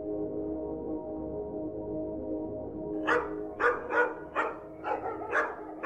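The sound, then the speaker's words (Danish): Hunting dogs sent out by hunters to scout the terrain during a duck hunt in Vorupøre, West Jutland, Denmark, on 1 September 1985 bark in a rapid series of about seven sharp barks, starting halfway through after a steady low droning background with no speech. “I Vorupøre i Vestjylland er andejagten gået ind, og entusiastiske jægere sender deres hunde ud for at sondere terrænet.”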